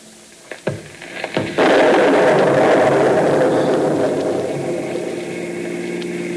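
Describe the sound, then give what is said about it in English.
Thunder from a lightning storm in a Dick Tracy radio drama: a few sharp crackles lead into a sudden, loud burst of thunder that rolls on as a broad, steady rumble, slowly fading over several seconds. No voices are heard. “Well, how went a lightning storm? That's unusual. Yes, I heard it.”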